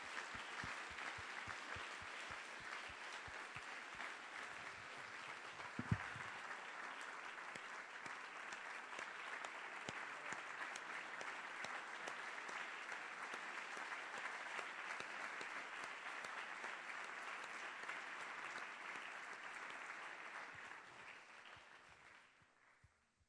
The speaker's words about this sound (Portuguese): Podemos aplaudir a este Senhor que nos ama tanto.